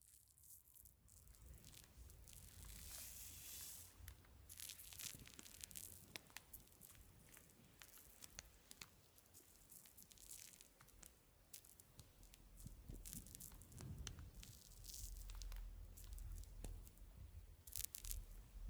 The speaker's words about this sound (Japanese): おお、泡もこもこだね。うん、しっかりした泡だから耳の中には垂れないよ。入り口より手前までしか塗ってないしね。